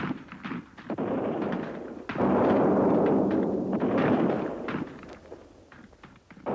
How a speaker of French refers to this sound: Champs-Élysées, on entend vers Auteuil et Passy, ponctué du tonnerre sourd des canons, crépiter sans arrêt la fusillade.